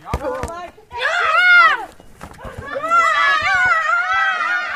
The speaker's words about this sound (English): Her patients are playing football.